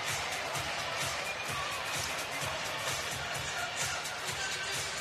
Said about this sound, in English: Timeout, Suns. 104-95. Listen to the crowd right now. 28-9 push for the Warriors.